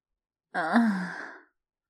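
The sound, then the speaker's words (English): A woman lets out a single soft, breathy moan lasting about a second, clear, with a voiced tone that slides downward and trails off. No words are spoken. “I moan.”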